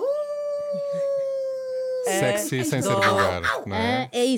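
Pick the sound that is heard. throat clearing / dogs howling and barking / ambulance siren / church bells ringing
dogs howling and barking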